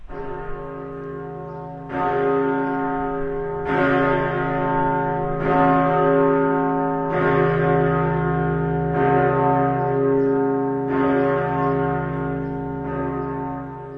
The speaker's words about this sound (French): Je vais vous poser une colle, on va écouter une cloche et vous allez me dire qui est cette cloche.